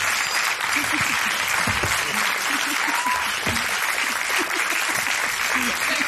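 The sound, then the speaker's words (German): Sustained audience applause, a dense steady wash of clapping at even loudness throughout, with a few voices faintly audible underneath. “Ein warmer Applaus nochmal bitte.”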